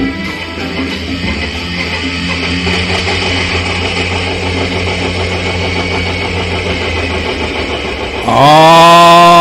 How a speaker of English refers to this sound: Let's get those tractors starting.